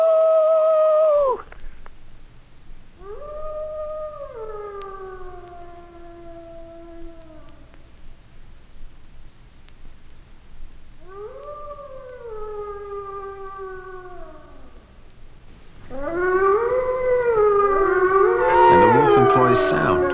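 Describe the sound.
A voice in Flagstaff, Arizona imitates a wolf, giving several long, drawn-out howls that rise and slowly sink in pitch, ending in a louder, wavering burst of overlapping howls, with no talking.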